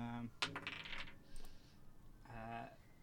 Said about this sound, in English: More Christmas-themed dice.